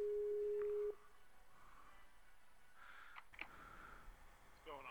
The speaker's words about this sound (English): Here it is. It's sending it out. It's ringing.